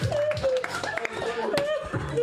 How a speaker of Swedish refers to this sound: Wow, applåder